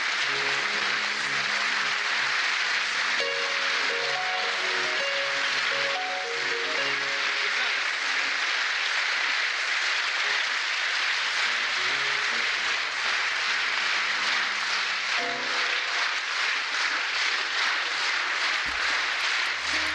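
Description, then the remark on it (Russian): Dense, sustained applause from a large crowd greeting a performer fills the whole stretch, steady and loud, with a faint tonal melody audible underneath in the first part and no talking. “Ну вот такими аплодисментами его встречали.”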